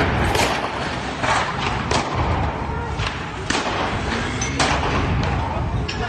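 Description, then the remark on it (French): Gunfire from military weapons in a street shootout between rival gangs in the Moulins district of Nice, France, filmed from a balcony: about eight sharp, loud bangs at irregular intervals, cracking out over a steady rumbling background noise for the whole stretch. “Vidéo captée depuis un balcon du quartier des Moulins, au lieu du trafic de stupéfiants, règlement de compte entre bandes rivales à ciel ouvert et à l'arme de guerre”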